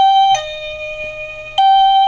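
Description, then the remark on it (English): A house doorbell sounds continuously at 3:45 in the morning as a loud, steady electronic tone that steps from a higher pitch down to a lower one, holds, then jumps back up. No one speaks. “My doorbell was going off continuously at 3:45 in the morning, as if someone was just standing there with their finger on the button outside.”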